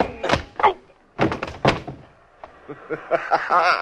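A few heavy, dull thuds land in quick succession, like punches striking a body, as a man is knocked out, followed by a voice making muffled sounds.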